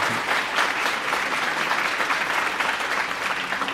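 An audience claps steadily in a sustained round of applause for a Nobel laureate professor at a Graduate School of Business event, dense overlapping handclaps at an even, fairly loud level throughout, with no voices standing out.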